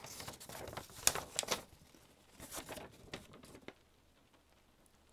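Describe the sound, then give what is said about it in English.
Dry paper crinkling as a sheet is unfolded, with several bursts of crackling rustle over a few seconds before it trails off into quiet. “Oh, right, the piece of paper. I forgot. Okay, let's see what you said.”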